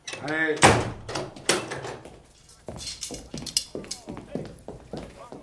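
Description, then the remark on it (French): A door is pushed shut by a gendarme with a loud, solid thud after a brief voice, followed by quieter shuffling, clicks and muffled movement. “Gendarme, fermez la porte.”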